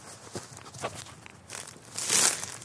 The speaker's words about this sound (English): I'm stepping on the bracken. Oh, that is crunchy. Oh, bracken. Delicious crunchy bracken. I love my bracken. Delicious crunchy bracken between my feet.